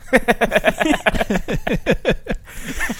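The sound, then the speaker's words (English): A rapid string of honks from a red clown nose, more than a dozen in quick succession, each a bright, reedy squeal that bends downward in pitch, fairly loud with no talking over them. “That cute little red nose. Thank you. Yeah, I think it's a good look. Give a little honk.”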